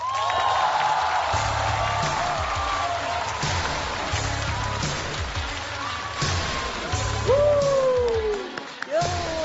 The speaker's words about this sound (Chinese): 啥呀，掌声有请李雪琴。